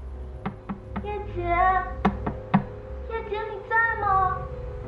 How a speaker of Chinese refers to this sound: 没过多久，有人敲门，叶冬雪听出是住在隔壁的公司同事周南。